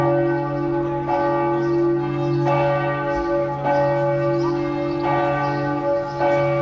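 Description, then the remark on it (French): Church bells in Les Sables d'Olonne, France, peal loudly and steadily at noon in tribute to three sea rescuers, each strike arriving roughly once a second over a dense, sustained ringing hum that never fades between strokes. No voices are heard. “En hommage, les cloches viennent de sonner.”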